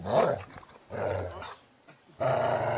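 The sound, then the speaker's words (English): A person imitates a dog, growling and barking in three loud bursts separated by short pauses, with the last burst sustained to the end. “Sorry, scaring the cat. Yeah, I think you are scaring the cat.”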